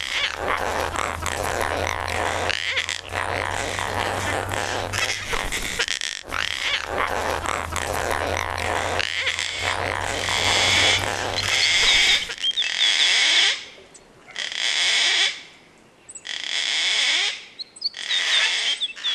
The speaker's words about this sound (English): Andy Garrett from Woden near Canberra recorded these gang gangs. He reckons there are about 15 of them all at his bird feeder.